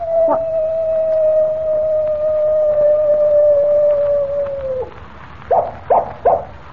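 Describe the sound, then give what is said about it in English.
A real coyote, Rawson's pet trained to howl, holds a long, steady howl on a single mid-pitched note for several seconds, sagging slightly before it breaks off, followed by three quick, sharp yips. “It was a coyote, and here it comes now.”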